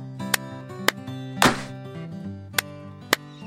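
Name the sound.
two hand claps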